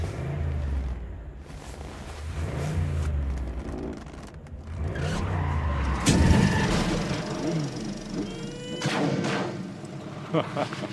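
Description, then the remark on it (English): A struggling car engine sputters and revs unevenly, with loud popping bangs like backfires cutting through, fairly loud for about eleven seconds. “Car trouble, is it?”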